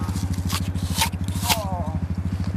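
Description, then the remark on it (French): A small organic apple is rubbed briskly against a sweater, a steady, rapid fabric-rubbing rhythm with a few sharper scuffing swipes layered on top. “Vous frottez sur votre pull.”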